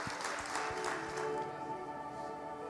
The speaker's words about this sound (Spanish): ¿Verdad que sí? Si tú lo quieres, dale un aplauso al Rey de Reyes.